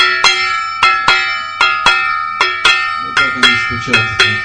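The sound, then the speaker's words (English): A small gong is struck with a stick about ten times in a steady, fairly quick rhythm, each bright metallic hit ringing briefly and loud, with faint voices murmuring near the end. “Gong about 3 times as big.”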